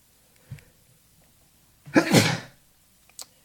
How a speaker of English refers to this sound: excuse me, I need a sneeze button, don't I?